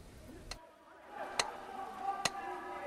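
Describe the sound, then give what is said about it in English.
A pyramid-shaped metronome ticks three times at a steady, unhurried pace, each tick a crisp, sharp click standing out over a faint, hazy background murmur. “closes his eyes and concentrates on the metronome”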